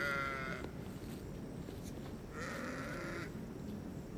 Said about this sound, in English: Come on, sheep. Come on. Come on, sheep.